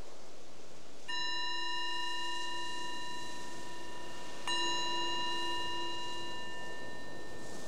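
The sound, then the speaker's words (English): A meditation bell is struck twice, a few seconds apart, each strike ringing out in a clear, sustained shimmer of layered tones that slowly fades. No one speaks. “So the bell is the invitation to transition from whatever you were doing before to this exploration of coming inwards to notice, how is it right here, right now?”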